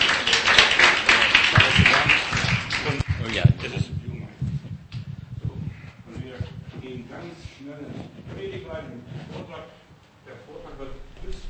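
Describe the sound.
An audience bursts into loud, dense applause for about three seconds, then the clapping dies away as a voice begins speaking over the fading remnants.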